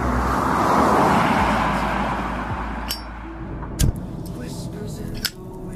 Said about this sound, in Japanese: まあまあまあまあ、乗りなよ。 相変わらずかっこいい車。お邪魔します。